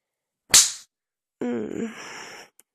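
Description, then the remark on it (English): A single sharp hand slap on a woman's bare skin cracks out once and fades quickly, followed a moment later by a brief voiced vocal sound. “Do you see how pink her skin gets from my slaps?”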